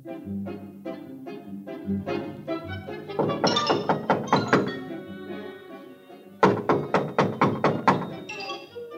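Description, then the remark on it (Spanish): A girl knocks for a long time on the wooden door of a witch's house, with no one coming to open it: a run of soft, steady raps, then two louder bursts of quick, hollow thuds, with a low humming tone underneath throughout. “Estuvo llamando mucho rato, sin que nadie pudiera acudir a abrir.”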